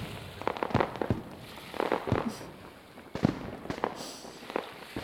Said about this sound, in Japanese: なるほど、あなた花火が見たかったのね。それともひょっとすると私に見せたかったのかしら。